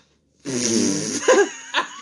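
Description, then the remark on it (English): A voice makes a drawn-out, buzzy fart-like sound, a laugh imitating a fart, followed by a couple of short laughing bursts. Fairly loud, with no talking. “Would you rather have your breath smell like a bad fart, or have your laugh sound like a fart?”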